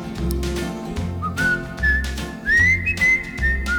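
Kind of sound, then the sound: human body sound, person whistling a tune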